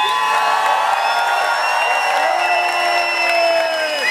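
A large crowd at a street rally cheers and whoops continuously, many voices overlapping in a loud, steady roar with scattered clapping, sustained without a break.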